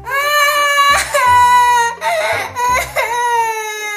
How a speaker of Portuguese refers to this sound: Então a carochinha começou a chorar em altos gritos.